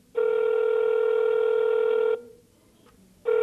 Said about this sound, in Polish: No rzeczywiście, nikt nie odbiera, słychać wolny sygnał? Tak, no.